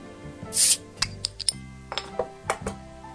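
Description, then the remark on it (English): A bottle of diet water is cracked open with a short, sharp hiss of escaping gas, followed by a run of small clicks and glassy clinks, with no talking. “And with that, it's time to crack open the diet water.”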